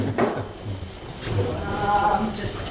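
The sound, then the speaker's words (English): A chair is moved into a corner at the start of a presentation, scraping and bumping across a hard floor, with a short squeak of the legs partway through, moderately loud. “Observe me while I move a chair.”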